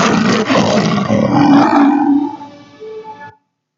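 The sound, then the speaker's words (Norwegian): A lion, Aslan from C.S. Lewis's Narnia story, gives one long, powerful roar, loud and rumbling with a harsh broad texture, trailing off into a lower tail before stopping abruptly. “Løven Aslan er jo bildet på Jesus Kristus i C.S. Lewis' fortelling om Narnia, og her så vi parallellen til oppstandelsen.”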